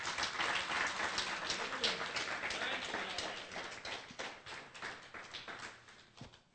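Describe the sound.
An audience claps their hands together as a hand clap of praise to God, in a dense, steady burst of applause that holds for several seconds, then thins out and softens toward the end, with a faint voice underneath.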